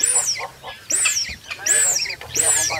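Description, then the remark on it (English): A female dik-dik's alarm whistle, blown through its long tubular snout when it feels threatened: four loud, high, nasal calls in a steady rhythm, each sliding downward in pitch, with brief pauses between them. “Onomatopoeia of the repetitive sound females whistles through their long tubular snouts when they feel threatened.”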